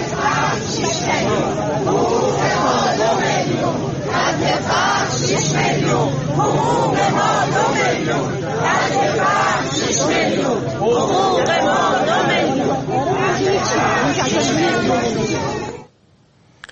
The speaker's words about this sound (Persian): در اینجا ابتدا ویدیویی داریم از تجمع اعتراضی بازنشستگان در تهران در مقابل سازمان برنامه و بودجه که روز سه‌شنبه انجام شد.